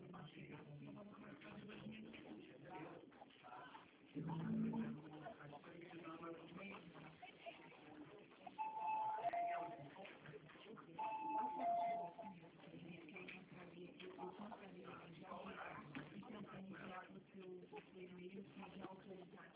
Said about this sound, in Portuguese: Tá tocando a campainha aqui, espera aí.